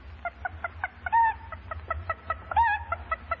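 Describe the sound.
An animal imitator voices a hen: a quick, steady run of short clucks broken twice by a longer, rising squawk, over a low background hum.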